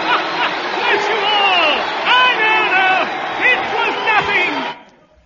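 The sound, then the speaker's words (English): A loud crowd cheers and shouts for Seagoon, many voices overlapping with rising whoops and cries, holding steady for almost five seconds before cutting off abruptly. “And the crowd, listen to them.”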